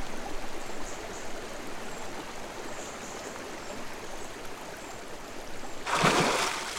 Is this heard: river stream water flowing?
yes